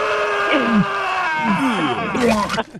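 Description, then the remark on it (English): A single voice loudly imitates a person with scromiting, screaming while vomiting after getting really high, with strained, gurgling groans and retching sweeps that rise into a harsh cry before cutting off abruptly. “It's the guys that get really high all the time, puke and and, yeah, and so scream.”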